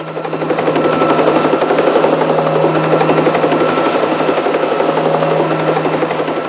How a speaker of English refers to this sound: You bring that chopper back down here. Too late, General.